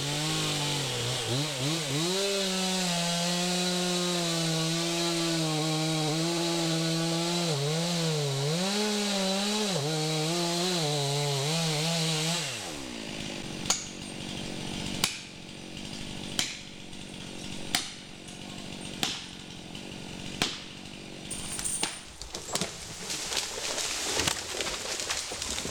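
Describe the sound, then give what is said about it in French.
A chainsaw runs loud, its engine whining up and down as it bites into wood, then stops, leaving a run of sharp, evenly spaced knocks over outdoor background noise. “je retourne voir Benoît parce que la tronçonneuse, elle tourne”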